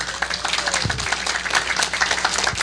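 An audience breaks into applause, a dense, steady wash of many hands clapping that holds at an even level for a couple of seconds without any voices over it.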